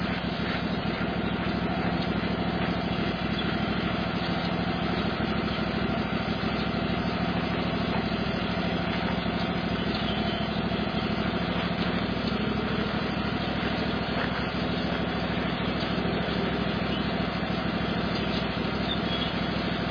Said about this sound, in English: Better go get the tractor and not leave it running by itself. Put it up there in the flower bed so you won't.